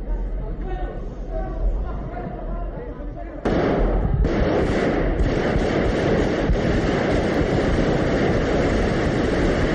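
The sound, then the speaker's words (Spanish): Voices and room noise in the parliament chamber in Madrid, during the investiture session of Leopoldo Calvo Sotelo, give way to a sudden loud burst of gunfire after a shouted warning, followed by repeated sharp shots in quick succession that keep ringing through the chamber. “El teniente coronel lanzó una advertencia a gritos, tras la cual hubo un silencio roto después por los disparos.”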